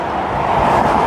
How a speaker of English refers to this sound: cars and trucks are going really fast right next to me. So I don't like staying on this road any longer than I have to.